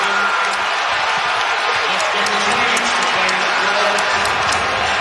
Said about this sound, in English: Do you hear those cheers in the background? That's not the Boston fans cheering. That's New York in the building. That's Knicks fans making the trip up there saying, we're about to take game two.